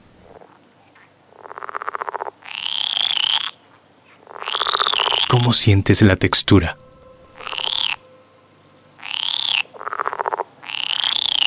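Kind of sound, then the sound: animal, small frog croaking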